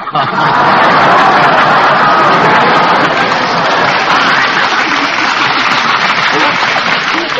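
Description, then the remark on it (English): Sustained audience applause following a joke, a dense, even wash of clapping that holds at a steady loudness for several seconds without breaks or any talking. “Got applause with a gag like that.”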